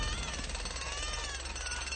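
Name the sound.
alarm clock blaring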